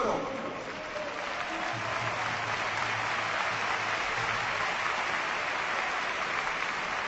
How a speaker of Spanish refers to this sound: Ahí va el cambio. Mira la ovación para Coro. Que se marcha, va a entrar Rodríguez.